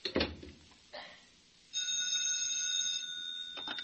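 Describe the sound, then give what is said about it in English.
A telephone rings with a steady, bright electronic trill lasting a couple of seconds, after a few brief knocks or clatters. “you shouldn't phone me.”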